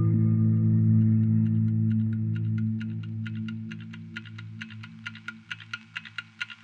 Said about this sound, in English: But what would a cult be without a loudly ticking clock that counts down the seconds towards the inevitable end of the world as we know it?